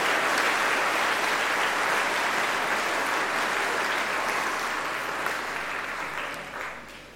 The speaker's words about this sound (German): Vielen Dank. Ich denke, ihr habt dafür einen Applaus verdient, auch für eure Texte, die ihr angebracht habt.